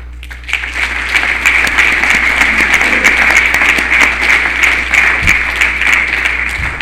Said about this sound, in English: Usually I get an applause for 74.